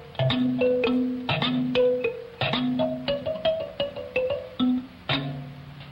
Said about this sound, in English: Finally, from Africa also is the instrument which Mr. Barber uses to open his composition, Adventure. It's called a sansa. Extremely delicate and quite small, as you can see. It's actually a kind of portable piano, and its tones sound like this.